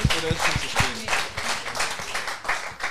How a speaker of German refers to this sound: Ja, dann ist es nochmal dein Applaus, ne?